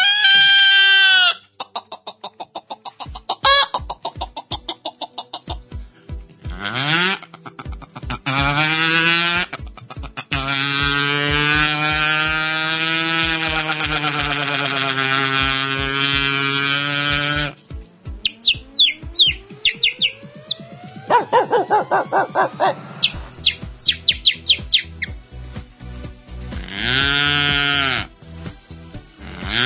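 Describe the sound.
A man's voice runs through a rapid series of animal imitations one after another in a continuous medley: bleating, crowing, chirping whistles and lowing calls, loud, with brief pauses between sounds.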